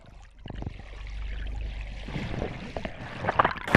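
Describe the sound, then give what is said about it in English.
Water sloshes and swirls as a person wades into cold water, with a low rumble underneath and a few sharper splashes building toward the end; a group of almost 10 people is getting into the water. “The cold water is just kind of starting to circulate around my bottom.”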